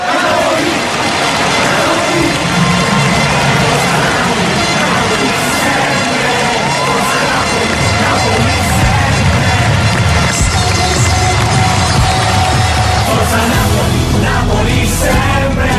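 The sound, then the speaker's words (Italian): A football crowd roars and cheers in a dense, unbroken wall of voices that stays loud throughout, with a deeper rumble swelling in over the second half. “Lo sento da lontano, il grido della gente.”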